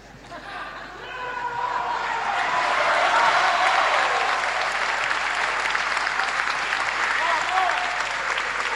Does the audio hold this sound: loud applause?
yes